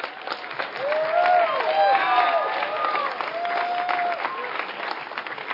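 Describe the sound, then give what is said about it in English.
An audience applauds the Ambassador Baptist College staff with steady, dense clapping that lasts several seconds, mixed with a few rising and falling whistles and cheers from the crowd. “And if you do, why don't you just express that by giving a hand to the college staff that put this on.”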